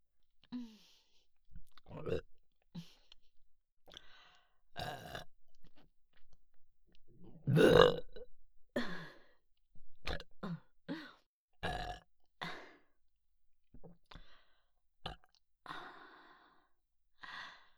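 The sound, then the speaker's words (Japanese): Repeated burps erupt one after another at uneven intervals, some short and abrupt, one long and drawn out near the middle, with breathy exhales and sighs between them. “ここにあなたの精液が入って、ここからゲップになって出てくるの。”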